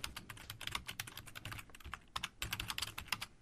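Rapid, irregular clicking of keys on a computer keyboard, heard up close and continuing steadily with brief pauses, no voices present.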